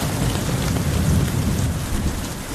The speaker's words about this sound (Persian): بارون گرفت. من فکر کنم یه چیکه افتاد تو دماغم اینجا. نه بارون جدی گرفت، جدی شده بودو.